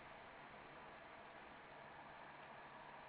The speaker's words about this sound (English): Why am I hearing white noise? It's probably my fan.